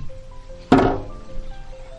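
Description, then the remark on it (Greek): A door swings shut and is locked with one solid thunk that rings briefly and fades, followed by a low background hum and faint rustling. No one speaks. “Όμως, καθώς εκεί να καταβρόχθησαν τα μικρά τριγωνικά σάντουιτς, η Ιβόν Καρέ κλείδωσε πίσω τους την πόρτα πριν καν τελειώσουν την τούρτα.”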